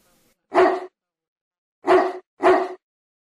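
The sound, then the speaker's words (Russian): A large black dog, chained up in its kennel in a front yard, barks lazily at someone: three unhurried barks, one, then after a long pause two more close together, each short and fairly loud with nothing else in between. “Только иногда зачем слышал, как она лениво гавкает на кого-то.”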